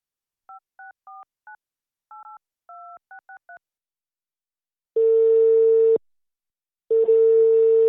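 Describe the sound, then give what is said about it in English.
A girl keys in a phone number as a quick, uneven run of about eleven short touch-tone beeps, followed by a steady ringing tone that sounds for a second, pauses, then starts again. “You will hear a girl talking on the phone.”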